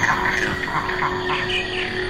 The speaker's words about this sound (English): No, it is very, very noisy. It's a din. It's just this kind of sonic chaos. All these insects and birds and bats and mammals, it's almost as if they compete for acoustic space.